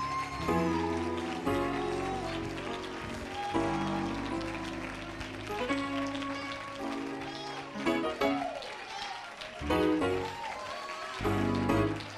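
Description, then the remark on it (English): A church audience claps steadily in praise of the Lord, the dense clapping running for the whole stretch, mixed with loud keyboard or organ chords and raised voices. “Well, somebody give the Lord a hand clap of praise.”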